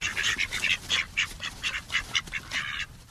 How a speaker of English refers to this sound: keeps bantam ducks in her backyard. The ducks are really for her dogs to practice their herding with, but in the winter, they don't earn their keep at all. They're total mooches.